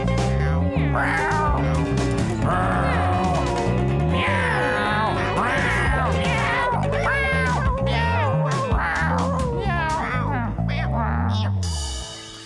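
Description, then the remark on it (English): Loud, drawn-out meowing cries wail and slide in pitch over a ragged, noisy folk punk band playing throughout, the caterwauling voices overlapping until the racket cuts off near the end. “making even … music sound sweet with the least musical folk punk racket in history. Meow.”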